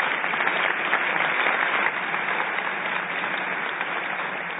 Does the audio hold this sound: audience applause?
yes